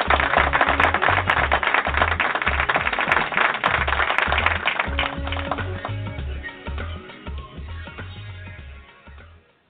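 A show audience welcoming the host and his guest claps in a dense, crackling burst over a steady, thumping low beat; the applause thins and fades gradually toward the end.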